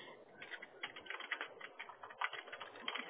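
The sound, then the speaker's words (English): Rapid, steady clatter of typing on a computer keyboard, a continuous run of soft key clicks for a few seconds, fairly quiet and slightly muffled, with no one speaking. “I'm just typing it up here before I forget.”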